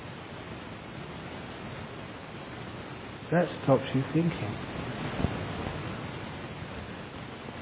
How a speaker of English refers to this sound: You know, when you are walking through the forest, listen to the sound. of the rain.